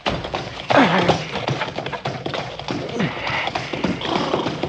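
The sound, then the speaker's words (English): A horse's hooves clip-clop steadily while the animal neighs and whinnies loudly a couple of times, with a busy, noisy background throughout. “Don't you listen, horse. You run.”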